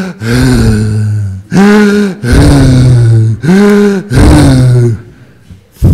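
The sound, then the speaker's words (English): A voice imitates the loud, heavy breathing of a man with a tumor in his nose at a meditation retreat in Sydney: about four long, rasping breaths in a steady rhythm, each one strained and voiced, loud, with short gaps between them. “He was breathing so loudly.”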